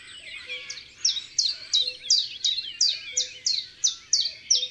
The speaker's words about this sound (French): Et ça, c'est quoi comme oiseau, tonton ? C'est le pouillot véloce, un petit oiseau qui a un chant très simple.